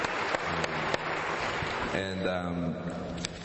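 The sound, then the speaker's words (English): Audience applause, a dense steady patter of many hands clapping, given as another round of applause after a speaker's presentation; partway through a man's voice starts talking over the fading clapping. “I just think we should give another round of applause to Tom Friedman”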